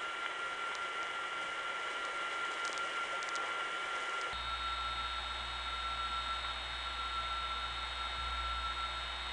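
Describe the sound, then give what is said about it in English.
Steady, thin whining tones ring over a bed of hiss on a local telephone trunk line running from the old downtown step building on Auburn Avenue in Atlanta to Smyrna, less than 15 miles away. Partway through, the noise shifts and a low droning hum joins underneath. No voices. “when the whining tones are present, but the high frequencies are not, N3 family trunks can sound very much like long-distance trunks”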